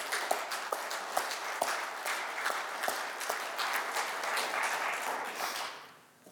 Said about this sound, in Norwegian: Skal vi ikke gi en god klapp til alle som medvirker her?